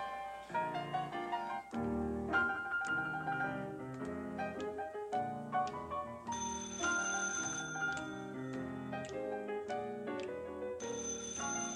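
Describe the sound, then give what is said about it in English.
A telephone rings as a phone cue in a rehearsed scene, with a bright, melodic electronic tone, repeating pitched notes in quick succession for the whole stretch, fairly loud, with no voices. “Now watch those phone cues, will you, honey?”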